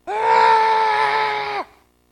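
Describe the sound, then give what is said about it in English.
A man lets out one loud, sustained scream at a steady pitch for about a second and a half, alone, before it cuts off abruptly into silence. “And it's as if I just exploded. And I screamed.”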